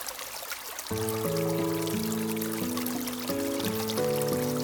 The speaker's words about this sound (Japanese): 秋。涼やかな小川のせせらぎに誘われて、森の中へと足を踏み入れた。